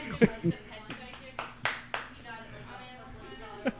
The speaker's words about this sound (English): The parrot's clapping at my glasses again. It's clapping.